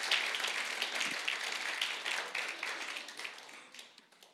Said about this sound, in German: Einen fetten Applaus für Sie.